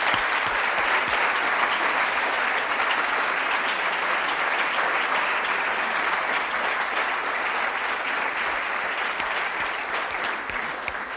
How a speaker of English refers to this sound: I wanted to start out by asking those who do not work in libraries to join me in a round of applause for the library community for all that they do.